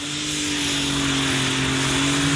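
A tractor engine at a tractor pulling event roars loudly and continuously, a steady, heavy drone with a strong humming tone and a broad rushing noise, no voices over it.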